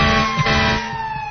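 A loud siren holds a steady, droning wail with a low rumbling undertone, heard alone for a brief moment with no talking.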